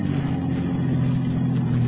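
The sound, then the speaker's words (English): A car engine runs with a steady, low mechanical drone throughout, fairly loud, with no voices over it and no clear point where it cuts out. “You have better stop the car here.”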